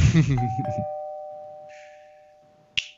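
A doorbell chimes two steady, ringing tones that hang and slowly fade, starting just as a voice trails off, with a sharp click near the end.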